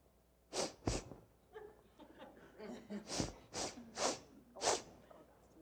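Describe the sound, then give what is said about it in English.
A person exaggeratedly imitates sniffing: about six sharp, loud nasal inhales in uneven bursts, a quick pair followed by a pause and then four more spaced sniffs. “They're sniffing these guys.”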